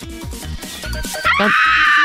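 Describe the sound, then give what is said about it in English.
A person lets out a vocal imitation of a deer's scream, a strained, rising cry that turns into a loud, shrill screech held for about a second. “what sound would you use for a deer then? Don't they just like kind of scream?”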